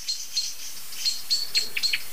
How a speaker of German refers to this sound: Die sind leider cleverer als ich. Das heißt, die wissen besser, wo die Ursache steckt. Was ziemlich eindeutig zu hören ist, okay, es sind andere Vögel involviert. Die Aufregung ist heftiger, stärker.